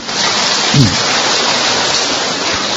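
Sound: audience applause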